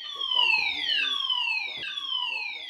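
A fire alarm in a broadcaster's building wails loudly and continuously, its high, harmonic tone sliding downward in repeated sweeps about once a second, with faint voices murmuring underneath as staff hurry down the stairs.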